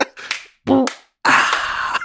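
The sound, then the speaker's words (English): A fart in three loud bursts: a short breathy puff, a brief buzzy low-pitched rip, then a longer airy, hissing blast, with no talking over it. “You anything know to say about the fart?”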